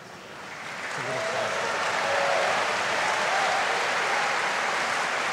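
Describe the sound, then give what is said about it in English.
A crowd at a Founders Day gathering breaks into applause as a gift from the Founders Day Committee is presented to a speaker, swelling within the first second into steady, dense clapping that holds at a full, even level until the end. “You clap for everything here.”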